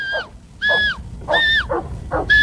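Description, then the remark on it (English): A series of four sharp, shrill shepherd's whistle blasts, some ending in a downward slide, given as different commands to several dogs outdoors, with faint bursts of animal noise and rustling between them as the dogs move. “So in the video of this clip, different dogs are moving and they're doing different things as he whistles with his different whistles.”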